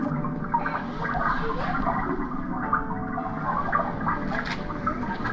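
Continuous rushing, bubbling water fills the scene at a steady moderate level, like a fountain or flowing stream nearby, with a dense watery texture and no speech.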